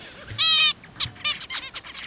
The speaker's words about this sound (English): These calls that you're hearing now are recordings that Nora made of zebra finches